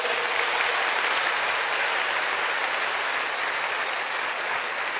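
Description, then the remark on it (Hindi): Steady, loud applause from a sizable crowd fills the whole five seconds, a dense wash of clapping hands with no pauses and no voices standing out, applauding children. “सभी हमारे देश के रत्नों के लिए, भविष्य रत्नों के लिए जोर से तालियां बजाइए।”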